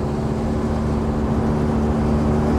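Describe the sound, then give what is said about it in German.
A vintage car with a large engine drones steadily on a test drive approaching Beuerberg, a constant low hum with a faint tonal whine, accompanied by continuous road and wind rush throughout, with no voices. “Ja, wir nähern uns Beuerberg. Das war sicherlich heute eine absolut außergewöhnliche Probefahrt.”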